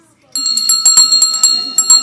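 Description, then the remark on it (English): A handbell rings loudly, struck in quick, steady repetitions so its bright metallic tones keep sustaining and overlapping, with faint voices murmuring underneath. “we close the picnic every year with our bell ceremony, and we invite you to bring a handbell for that”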